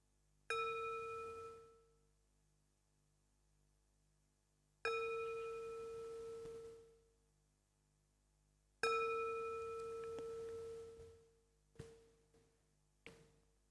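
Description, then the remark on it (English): A gong is struck three times at slow, even intervals to end a meditation, each ringing tone swelling out and fading before the next strike, followed by a couple of faint light taps. “So I'll now ring the gong 3 times, and then you can open your eyes.”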